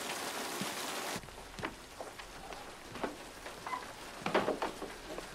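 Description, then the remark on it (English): A dense roar of heavy rain pours down on a stormy night for about a second, then drops away to a quieter, scattered patter of drips and splashes on a hard surface. “I didn't hear you in all this rain.”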